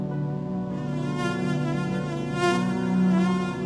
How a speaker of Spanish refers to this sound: El mosquito no distingue nacionalidades, pero la enfermedad sí revela desigualdades.